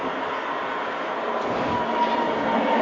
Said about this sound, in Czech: Přijela tramvaj a už asi pojedou.